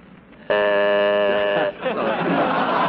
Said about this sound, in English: Hurry up, for Beulah the buzzer blows.